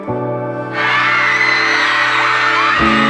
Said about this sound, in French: Et dès les premiers accords du morceau, tous les fans sont déjà debout et hurlent à tue-tête.